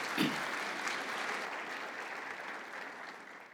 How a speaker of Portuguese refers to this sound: Pode dar uma salva de palmas aí. Obrigado, queridos.